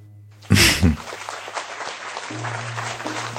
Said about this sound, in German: Ist der Applaus schon durch? Ja. Genau.